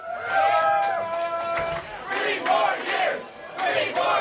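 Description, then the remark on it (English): A crowd of about 50 supporters cheers and whoops enthusiastically as Burlington Mayor Moreau Weinberger walks into his reelection victory party at Nectar's in Burlington, Vermont, many voices shouting together in sustained, overlapping bursts of excited yelling with no clear pauses. “Moreau Weinberger walked into his victory party last night to a crowd of about 50 supporters who were all cheering enthusiastically, three more years.”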